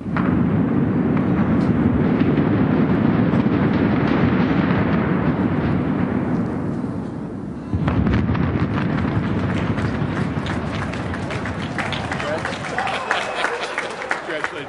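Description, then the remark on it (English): A loud, continuous low roar of the implosion and collapse of the old Washington convention center, set off at 7:30 a.m. when Mayor Anthony Williams pushed a symbolic plunger, rumbles for several seconds, then shifts to a rougher crackling wash of falling debris mixed with the watching crowd's noise. “Eastern Time, Washington Mayor Anthony Williams pushed down on a symbolic plunger, and the crowd watched the old convention center melt before their eyes.”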